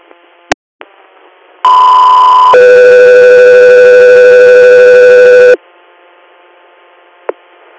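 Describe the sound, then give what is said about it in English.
A loud two-part radio alert tone: one steady pitch for about a second, then a longer, lower steady tone lasting three seconds, set against faint radio static with a few clicks. “stand by for tone.”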